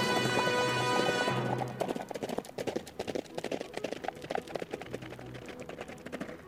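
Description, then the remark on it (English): A loud, bright harmonic sound opens, then gives way to fast, rhythmic hoofbeats of the horses Silver and Scout galloping away, a steady clatter of sharp thuds that carries on to the end without any voices. “Hail Silver, away! Get up, Scout.”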